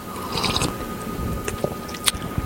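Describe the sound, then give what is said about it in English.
Wet slurping as someone takes quick sips of hot black coffee, with a few sharp little sucks and squishy mouth noises over a low background hum, no talking. “I totally believe you because he went for a second sip too quick.”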